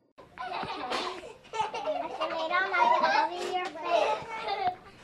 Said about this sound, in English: This may sound like the usual childcare center, with kids playing and having fun. But this is an unusual place. Mount Olivet Day Services combines childcare and senior center in the same building